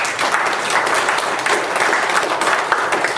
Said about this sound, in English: What defines me is Jesus. Give Jesus a hand of applause.